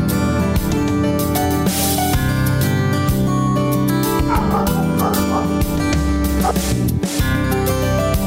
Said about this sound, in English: You are listening to Dr. … Live and my dog Mozart barking in the background as a leaf blower goes by.